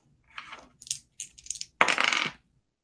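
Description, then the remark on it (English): Dice rolled for a listen roll rattle and tumble across a hard tabletop: a few quick, bright clicking bursts, then a louder sustained clatter before they settle, giving 33, a pass. No voices are heard. “Give me a listen roll.”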